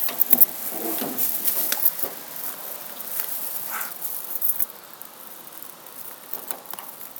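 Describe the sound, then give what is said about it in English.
A bunch of keys on a ring jingles and clinks irregularly, bright and tinkly, with a few sharper clinks at the start and a softer, steady rattle afterward. No one speaks. “I just have too many goddamn keys on this ring.”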